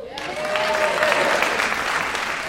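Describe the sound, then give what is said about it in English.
An audience at Leanne Morgan's stand-up special I'm Every Woman claps steadily for a couple of seconds, a dense wash of many hands at moderate loudness, with a faint cheer or whoop threading through it and no talking. “Okay, we didn't hear them clap big because they raised their hand.”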